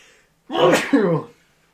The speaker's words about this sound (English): I think I might sneeze. Oh, jeez. Hello, allergy check? I think it's one of the first times I've sneezed on the show.